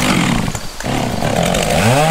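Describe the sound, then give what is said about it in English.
A Poulan Pro gas chainsaw roars loudly and continuously, its engine pitch dipping briefly and then revving back up, with a rising whine near the end. “I'm starting this commercial with my Poulan Pro chainsaw running because I've personally tested my new Stinger Ballistic sunglasses by wearing them while cutting up downed trees from Hurricane Laura.”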